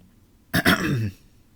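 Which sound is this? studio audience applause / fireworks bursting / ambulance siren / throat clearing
throat clearing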